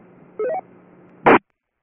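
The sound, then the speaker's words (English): A single sharp, loud cough from the net control operator of an amateur radio net, shortly after a quick run of rising electronic beeps over a faint radio hum. “Excuse me, I had to cough.”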